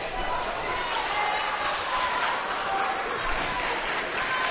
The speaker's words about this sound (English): Western's able to put all their seniors in and then take them out and get a nice round of applause from the home crowd here as they've played their last game here in the gym.